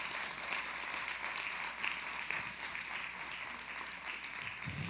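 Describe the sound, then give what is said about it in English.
A church audience bursts into sustained applause, giving God a big hand clap, a dense, steady wash of many hands clapping at even loudness throughout, with no individual voices standing out. “Let's give God a big hand clap.”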